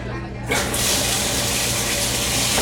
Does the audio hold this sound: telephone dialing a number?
no